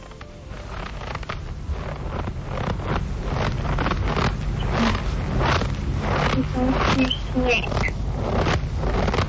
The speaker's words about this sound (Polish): Tak, to jest śnieg. Skrzypiący śnieg. Rzeczywiście. Myślę, że to była trudna zagadka, bo ostatnio tego śniegu nie ma tyle, żeby aż tak skrzypiał.